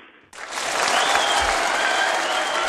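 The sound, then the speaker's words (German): Applause erupts suddenly and keeps going steadily, a dense wash of many hands clapping at once, loud, from an audience in a hall responding after a performance. “Dein Applaus.”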